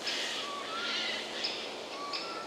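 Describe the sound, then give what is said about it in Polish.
Harsh, raspy rattling calls of a Eurasian jay come in several rough bursts, fairly faint, with thin bird notes faintly behind them in an outdoor setting. “Tam też rzegotanie sójki, jej typowy dźwięk.”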